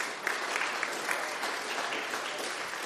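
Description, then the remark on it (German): An audience claps steadily, a dense crackling wash of many hands with a few sharper claps standing out, sustained at an even level throughout. “Und dafür nochmal einen Applaus, würde ich mal eindeutig sagen.”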